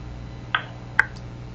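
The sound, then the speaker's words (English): Two short electronic beeps from a telephone keypad as a call is dialed, about half a second apart, then a fainter third blip, all over a steady low background hum with no talking. “I'm going to mute my phone, and I'm going to call”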